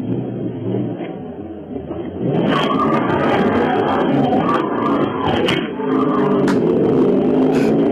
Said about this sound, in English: Yeah, just like in Ferris Bueller. Wow. When they take the car out around Chicago. Here's the actual tape from the glove box of the burnouts that the guy captured on tape.